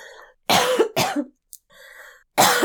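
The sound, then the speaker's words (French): Three loud coughs in quick succession from a person with allergies, the first two back to back and the third after a short pause, with a faint throat sound in between and no talking. “J'avais peur de me mettre à tousser, hein, parce que j'ai des allergies.”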